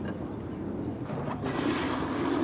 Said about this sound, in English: All right, we're going to open the water now. Okay.